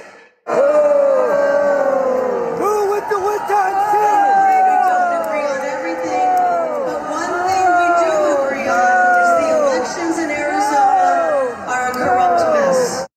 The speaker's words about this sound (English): That was Arizona Senate candidate and prominent election denier Republican Carrie Lake getting loudly booed by members of her own party at the Arizona GOP's annual convention last month.